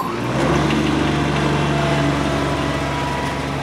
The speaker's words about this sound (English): I'm attaching the tiller now. It's attached. When the tractor moves, spinning claws are going to dig up the dirt behind us.